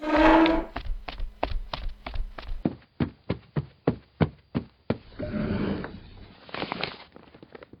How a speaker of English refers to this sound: Is there a chest of drawers in the house you're in? Near the living room? Uh-huh. Right outside the entrance to the kitchen. Why? Open the second drawer from the top.